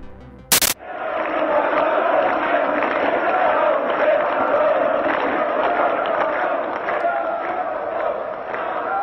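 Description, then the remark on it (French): A large, angry crowd at a mass popular rally in Bucharest roars and shouts in a dense, continuous uproar of many voices, loud and sustained throughout, opening with a brief sharp crack just before the noise swells. “alors dans sa voix la peur qui soudain prend le dessus face à la colère du peuple.”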